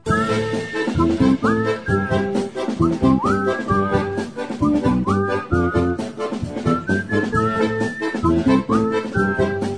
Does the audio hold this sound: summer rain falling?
no